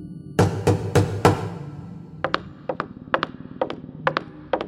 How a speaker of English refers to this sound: Yes, yes, enough with the knocking.